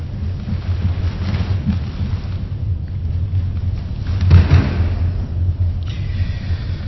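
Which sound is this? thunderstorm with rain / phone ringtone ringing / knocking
thunderstorm with rain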